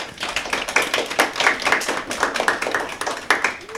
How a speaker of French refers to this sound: Applaudissez-les!